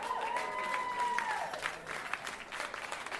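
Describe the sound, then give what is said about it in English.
A concert audience claps and cheers steadily for a few seconds for the arranger of a piece the band is performing, dense applause with whistles and a rising then falling shout standing out above the noise. “Can we have a cheer”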